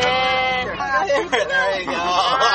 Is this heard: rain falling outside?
no